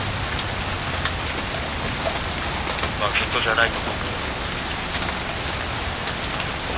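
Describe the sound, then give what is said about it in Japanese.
Steady rain patters on a hard surface, a dense, even hiss of drops throughout, at the boundary between where it is raining and where it is not, with a person briefly speaking partway through. “あ、雨降ってるところと、雨降ってないところの境界線発見。”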